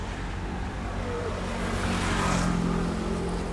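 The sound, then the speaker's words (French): Street traffic rumbles steadily on rue Merlan in Noisy-le-Sec, France, a broad engine and tyre roar that swells as a car passes around the middle, then settles back to a constant hum. “Et les voitures passent.”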